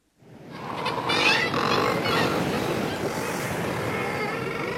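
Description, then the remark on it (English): A dense, continuous chorus of loud, low growling and grunting razorbill and guillemot calls at a seabird colony, with surf and wind washing steadily underneath. “is fascinated by the razorbill and the guillemot”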